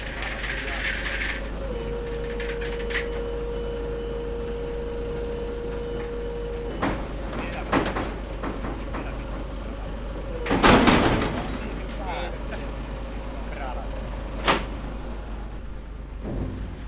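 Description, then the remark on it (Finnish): A heavy metal hatch on a livestock truck swings shut with one loud clang as the family's youngest member closes it at the driver's request, followed by a few lighter knocks over a steady low engine rumble. “kuski oli pyytänyt meidän nuorimmasta Iida, että pistää tuon luukun kiinni”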